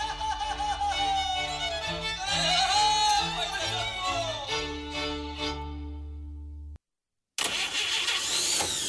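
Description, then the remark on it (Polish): An old car engine cranks and sputters with a whining, uneven drone, then cuts out abruptly; after a brief silence, a rough, loud burst of engine noise follows. “Zostaw tego grata w spokoju.”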